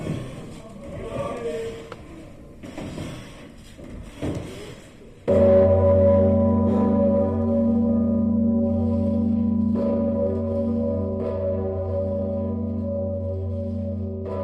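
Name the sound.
church bell ringing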